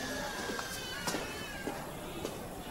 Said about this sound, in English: Cats.